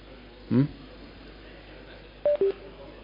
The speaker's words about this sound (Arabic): في تليفون ما تواصل مع هذا؟ طيب إذا كان في تليفون يعني متوصل، إخوة بتقول إذا كان متوصل تليفون على الخط هذا يغلقه جزاكم الله خير، اللي مع الرنة هذه يغلقه. وبعدين ما ينبغي الرنة هذه أصلا